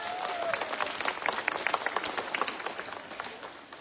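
A crowd of pilgrims on Jasna Góra square applauds warmly to welcome one another and groups still arriving, with dense, steady clapping that holds an even loudness for several seconds before easing slightly at the end. No one speaks over it.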